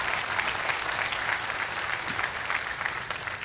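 A church audience applauds together, many hands clapping in a dense, steady wash that stays loud and even throughout, with no voices standing out above it.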